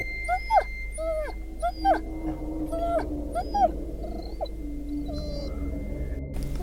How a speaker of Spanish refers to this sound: Entonces yo escuché un perro llorando. Se notaba que era un cachorro.